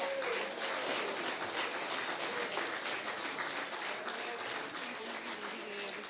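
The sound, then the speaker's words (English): A crowd applauds steadily for a committee and award winners, a dense, even wash of many hands clapping at once that holds at a constant level for several seconds before easing slightly toward the end. “Let's give the committee and our winners another round of applause.”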